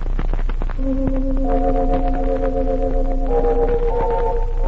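Bell tones enter one after another, each note ringing on and layering into a steady, sustained chord of several pitches over a faint background hiss, with no talking.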